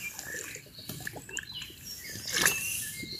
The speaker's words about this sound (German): Jetzt muss ich mal einen Schluck aus der unbefriedigenden Wasserflasche nehmen.